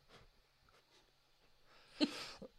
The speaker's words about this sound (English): I will show you how I sneeze. This is not a sneeze. I'm recreating the magic for you. No. Here we go. This is me sneezing.